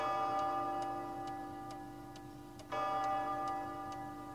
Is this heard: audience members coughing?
no